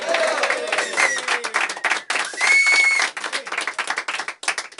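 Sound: applause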